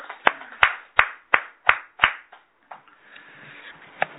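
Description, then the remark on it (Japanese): Applause at a Konko morning service celebrating a worshipper's wife turning 57 begins as six sharp, evenly spaced claps in a steady rhythm, then loosens into softer, scattered clapping with a faint murmur and one last distinct clap. “盛大な拍手でお祝いしてあげてください。”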